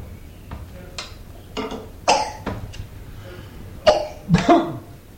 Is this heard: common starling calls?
no